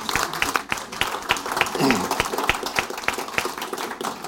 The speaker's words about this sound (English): You know, I feel like I should give you guys a chance to pause and clap for each of these efforts because they're pretty epic, but we got so many stories.